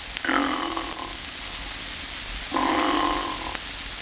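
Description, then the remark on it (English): Two snores of the basic, type 1, ordinary or Pullman car form, imitated by a voice: each a rough, rasping drawn breath lasting about a second, separated by a quiet pause, with no talking. “In discussing the human snore, or in scientific terms, soft palate calisthenics, I need scarcely point out that the basic snore, or type 1, is the ordinary or Pullman car form, sounding as follows.”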